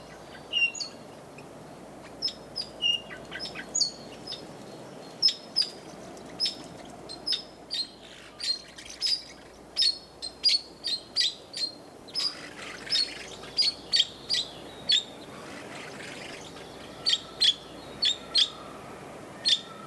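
A parakeet sings continuously in bright, high chirps and short warbling phrases, repeated in quick succession at moderate loudness, with a faint background hiss and no talking.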